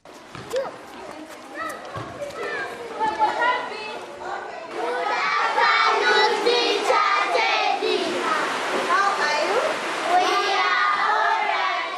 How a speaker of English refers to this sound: Other children grace the downpour as they play soccer,